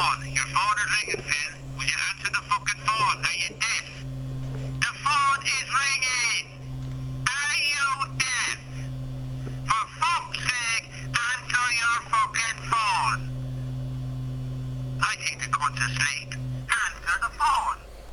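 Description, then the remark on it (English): A phone ringtone plays loud, made of repeating bursts of bright, voice-like melodic phrases over a steady low humming tone, with short gaps between phrases. “So I think that's got us our explicit tag. By my fucking ringtone.”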